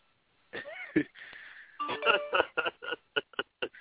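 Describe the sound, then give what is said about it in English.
A run of short electronic text message notification chimes pings in quick succession as someone texts the speaker, through a thin, phone-line sound, with some voice murmuring mixed in. “you hear him texting me, don't you”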